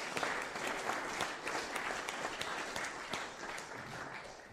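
An audience breaks into warm applause, many hands clapping in a dense, steady patter that holds evenly for several seconds with no one speaking over it.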